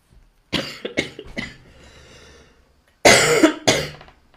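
coughing

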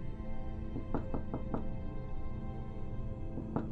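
knocking on a door

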